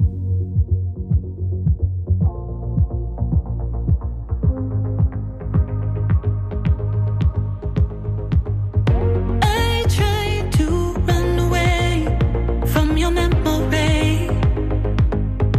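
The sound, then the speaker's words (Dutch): A synthesizer-driven song with a steady, throbbing beat and sustained low tones, gradually building until brighter melodic lines join in partway through, playing loudly throughout. “Ja, nee, ja, en er zit synthesizer in. Dus het is op zich heel logisch dat ik het hoor.”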